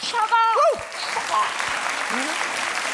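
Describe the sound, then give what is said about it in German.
A crowd claps steadily throughout, with a brief vocal whoop or shout rising above the clapping at the start before fading into sustained applause. “Einmal der Applaus für die Pfanne.”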